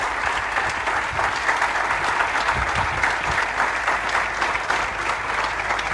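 Sustained applause from a sizable audience, a dense, steady wash of clapping hands that stays loud and even for the whole stretch, with no voices rising above it.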